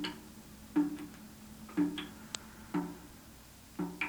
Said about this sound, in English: Someone forgot to turn off the faucet, didn't they? That was the sound of water dripping from the faucet.